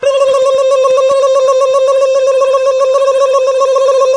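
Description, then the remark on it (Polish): A steady electronic telephone tone sounds continuously and fairly loudly as an outgoing phone call rings, a sustained buzzing ring with no pauses and no voices. “wykonałem telefon w kwestii butonierki.”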